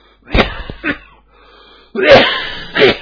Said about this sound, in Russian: Да, это я уже кашляю. Это уже не поперхнулся.